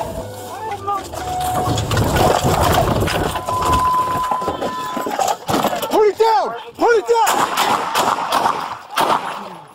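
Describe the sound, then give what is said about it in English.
Police bodycam video of a Jacksonville Sheriff's Office officer shooting a man at a mobile home park: several sharp gunshots crack out in quick succession amid a noisy, chaotic outdoor scene, with raised, shouting voices and rushing background noise throughout. “Shots fired.”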